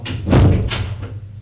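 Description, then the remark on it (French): A bedroom door swings shut with a heavy thud, followed by a couple of lighter knocks as it settles into the frame, then quiet. “Laissons fermer la porte de la”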